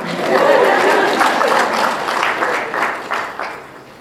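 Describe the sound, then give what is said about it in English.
A crowd applauds with dense, steady clapping that gradually thins and fades over about four seconds, with a few scattered claps at the end. “You can applaud.”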